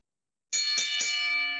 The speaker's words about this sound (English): ring the bell.